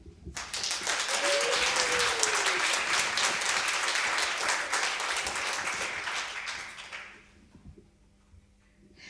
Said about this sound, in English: Like, a big round of applause to